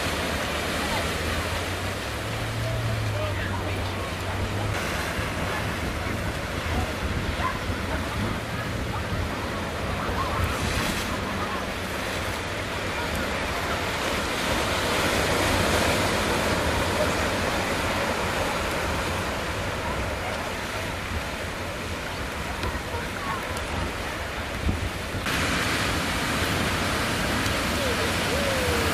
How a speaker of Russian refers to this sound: Вдруг пошли волны побольше. Ну-ка, давайте понаблюдаем вот с самого начала. Вот там идет.